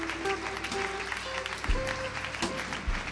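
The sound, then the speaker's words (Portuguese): A church audience applauding the Lord steadily for a few seconds, a dense wash of many hands clapping over sustained keyboard-like tones, with a couple of low thumps near the end. “Aplauda ao Senhor.”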